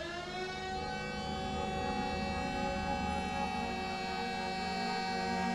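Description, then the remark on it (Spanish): A loud, sustained wailing siren drones steadily without a break, its rich harmonic tone holding nearly level with only a slight downward drift. There is no talking. “La sirena aullaba, quedaban ya pocos pasajeros.”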